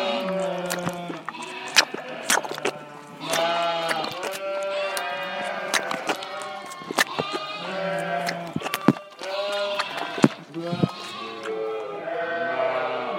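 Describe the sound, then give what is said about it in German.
A crowd of lambs bleats nonstop, their high, wavering calls overlapping into a busy chorus, with a few sharp cries standing out, and no people talking. “Manche von deinen Lämmchen, die müssen mit der Flasche großgezogen werden.”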